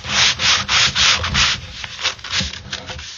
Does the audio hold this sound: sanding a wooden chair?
yes